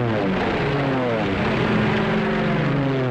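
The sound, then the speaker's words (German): Heavy droning of propeller aircraft engines as 521 English aircraft approach Nuremberg for an air raid at 19:30 on a crystal-clear night: a dense layered hum with throbbing tones that holds steady and loud throughout, like many planes flying overhead. “Die Chance, in Nürnberg zu überleben, als sich 521 englische Flugzeuge der Stadt nähern, ist gering.”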